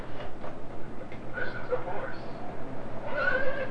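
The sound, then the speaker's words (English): A toy plays a recorded horse whinny, a short thin neighing call that wavers and repeats near the end, over steady background noise. “You got the horse.”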